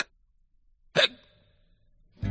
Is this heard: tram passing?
no